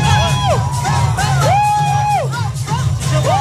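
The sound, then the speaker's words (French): A nightclub crowd cheers and whoops loudly, with rising and falling yells over a steady low bass thump, the shouts overlapping in a continuous excited roar. “Je crois qu'on l'entend, il vit sa meilleure vie quand il est loin de chez elle, finalement.”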